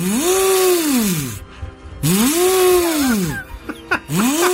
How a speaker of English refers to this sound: I live next door to a leaf blower that runs 24 hours. And they never blow it steadily. It's always on start and stop.